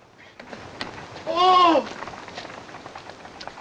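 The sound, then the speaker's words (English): A horse-drawn carriage speeds past towards a frontier barrier with a steady clattering, rattling rumble, and a brief, loud tonal cry swells above the noise midway before it fades back into the clatter. “Dracula's pale features flash past as his carriage speeds towards the frontier barrier”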